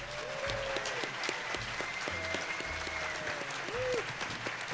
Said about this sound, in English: So can I get a big round of applause for the group?